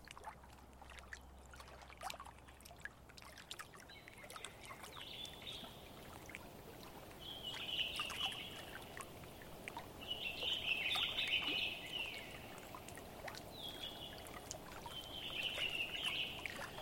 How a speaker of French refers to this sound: parce que la rivière, ben c'est ça, c'est pas seulement le bruit de l'eau, il y a tout ce qu'il y a autour aussi, il y a les oiseaux, il y a le vent dans les arbres.